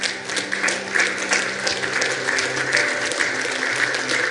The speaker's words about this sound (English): And I want you to give the Lord a hand clap of thanks.